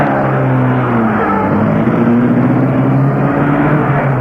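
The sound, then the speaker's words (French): A car engine hums loudly and steadily, its pitch rising slightly as the car picks up speed and pulls away from a house, leaving town toward Villard-de-Lans, with continuous road rumble and no voices. “Pour sortis de la maison, ils prennent la voiture et partent.”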